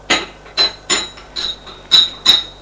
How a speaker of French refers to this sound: Entre la bonne avec le plateau du thé. Elle va le déposer sur la table basse.